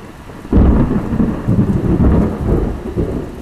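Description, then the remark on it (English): A sudden loud thunderclap from a thunderstorm out over the ocean, then a deep, sustained rumble rolls on for several seconds, with rain hissing steadily underneath throughout. “That one was out over the ocean.”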